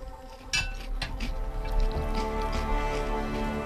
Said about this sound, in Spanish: Se pone un vasito de agua.